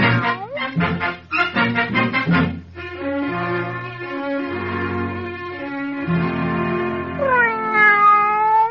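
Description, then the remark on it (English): A cat named Haman meows and yowls repeatedly, starting with short choppy cries and stretching into long, loud, drawn-out wails with rising and falling pitch toward the end. “And the cat, he also wants justice”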